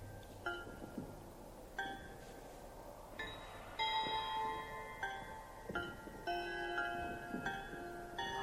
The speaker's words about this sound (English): Bells in the following order. C. D. B. C. A. B. C. A. B.